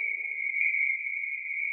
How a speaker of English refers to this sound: I was very tired, and I had my headphones on and my microphone outside the tent because I was recording the nighttime sounds. I heard the hyenas yowling. I heard the frogs.